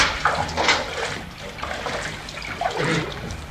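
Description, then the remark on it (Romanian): Water sloshes and trickles steadily as an old rum bottle is rinsed, with splashy bursts and gurgles rising and falling over a few seconds, no voices present. “Iată sticla! Bine! Spălați-o numai decât!”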